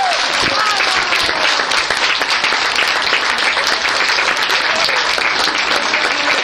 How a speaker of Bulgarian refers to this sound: Умората е обяснима след дълги междуконтинентален полет, но лицата им се озариха, когато чуха аплодисментите на многото журналисти, двама китайски фотографи, колеги, приятели и развълнувани роднини.